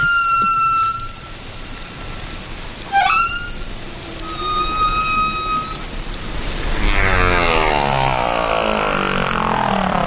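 Recorded whale song: long, pure tonal calls with rich overtones, a quick swooping cry midway, and later a wash of rippling, rising sounds, all over a constant hiss with no talking.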